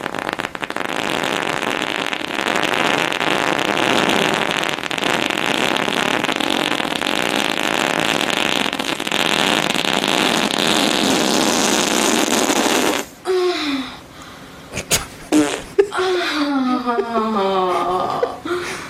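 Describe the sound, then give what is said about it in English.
Daniel Radcliffe, getting into character as a horse, makes a long, loud, raspy blustering noise like a horse breaking wind, sustained for about thirteen seconds, then breaks off into laughter and brief chatter. “And if you want if a little pop up video info, the noise it does not sound like a horse farting its guts out is Daniel Radcliffe.”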